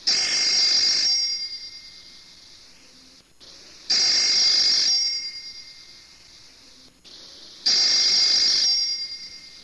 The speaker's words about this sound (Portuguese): Quando de repente, sem avisar, o telefone toca.